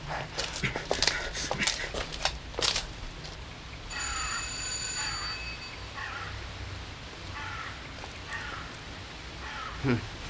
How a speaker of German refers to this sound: Lasst uns mal klingeln und fragen, was hier los ist.